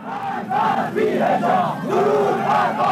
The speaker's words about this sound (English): And on the streets, women continued to be attacked by counter-protesters, or more accurately, chanting mobs.